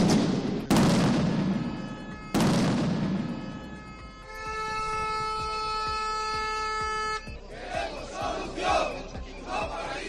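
Two loud explosions boom a couple of seconds apart in central Oviedo, Asturias, Spain, at a street protest by miners from the Vega de Rengos mine in Cangas de Narcea, each rumbling away with echo. A long blaring horn follows, then a noisy crowd shouting in the street.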